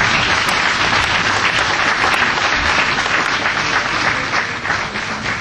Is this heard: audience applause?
yes